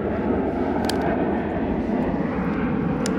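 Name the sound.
airplane flying overhead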